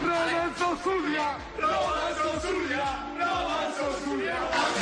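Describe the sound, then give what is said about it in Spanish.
A large crowd of Rayo Vallecano football fans in Vallecas, from the club's antifascist stand, chants in unison, many voices bellowing a rhythmic, repeated call with steady loudness, punctuated by sharp shouts and whoops throughout. “Esta grada es antifascista, ya saben, tendencia de los bucaneros de izquierdas, tendencia de los ultras del Betis de derechas. Esto gritaban hoy.”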